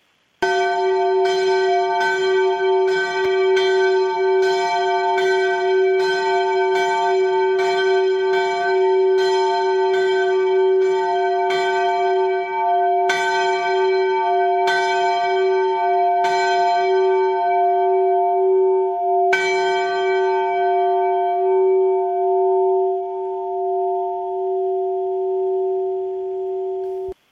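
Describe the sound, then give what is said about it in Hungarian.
A single large bell of Saint Michael's Benedictine Abbey in Farnborough, southwest of London, tolls steadily, its deep resonant strikes repeating roughly every second before spacing out, each blow leaving a long humming ring that sustains and slowly fades at the end. “Ez a település, ez Londontól délnyugat irányban található, és ott az említett Saint Michael, ugye, Szent Mihály bencés apátságnak ezt az általa döntött harangját, ahogy említetted, a kedvenc harangodat fogjuk most meghallgatni.”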